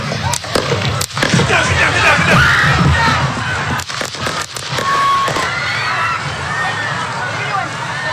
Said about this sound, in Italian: Vi faccio sentire il momento degli spari